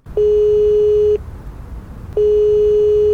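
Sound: telephone line tone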